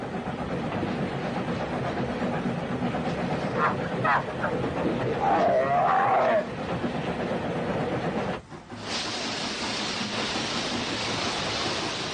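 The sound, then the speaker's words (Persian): A train carrying camels rumbles steadily along the tracks with a broad, continuous roar, a brief squealing tone rising midway before the noise dips and returns brighter and hissier. “اولین بار بود که شترها با قطار مسافرت می کردند و حتما برایشان دلپذیر بود.”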